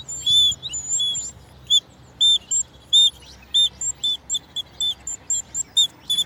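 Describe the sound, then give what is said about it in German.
A mini bird whistle blown at Hellabrunn zoo, imitating birdsong with a quick series of high, thin chirps and trills in short, choppy bursts that grow steadier toward the end, with no talking. “Ich bin leider kein begabter Vogelpfeifenspieler. Ist auch gar nicht so leicht, wie ich mir das vorgestellt habe mit dieser Mini-Pfeife.”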